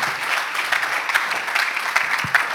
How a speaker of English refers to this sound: So I'm going to invite him out. Why don't you give him a big round of applause, a big Anchor welcome.